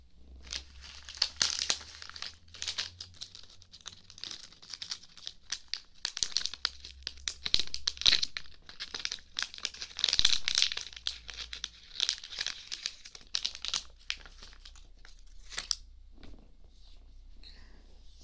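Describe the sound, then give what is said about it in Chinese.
Someone rummages through a drawer for cotton swabs, making irregular bursts of crinkly, papery rustling and small clicks over a faint low hum, with no one speaking. “棉棒的话，抽屉里面应该就有的。嗯，等我找一下。”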